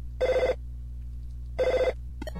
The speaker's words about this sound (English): What's that? It's the phone, you idiot! Pick it up! My dad gets mad if I don't get it by the third ring!